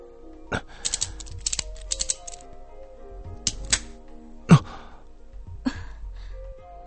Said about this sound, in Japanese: もしかすると同じ鍵が使えるのかもしれない。その場にかがんで手錠に鍵を入れてみた。